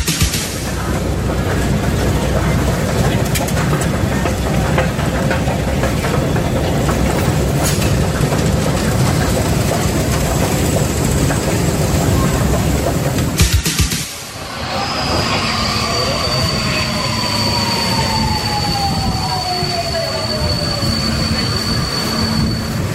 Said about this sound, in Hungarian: Kedves hallgatók, metrózunk, megyünk a Puskásra.